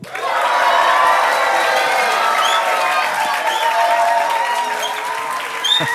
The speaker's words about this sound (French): C'est sympa d'être applaudi comme ça ? Ouais. Ouais, c'est intimidant ? Quoi ? C'est intimidant ? Un peu, ouais. Un petit peu.